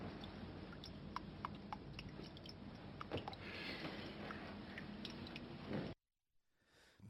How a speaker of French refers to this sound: ce robinet mal fermé qui s'évertue à empêcher M. Bouchard de trouver le sommeil